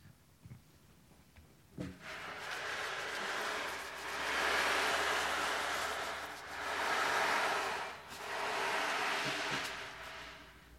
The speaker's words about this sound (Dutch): De nacht begint en het gaat regenen. Steeds harder en harder.